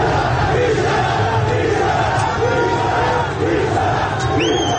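A loud crowd of protesters, clashing with security forces and police around Sepahsalar Garden, shouts the chant "bisharaf, bisharaf" ("dishonorable") in unison, voices rising and falling in a steady rhythmic pattern, with a dense roar of many people underneath and a few higher shrill cries.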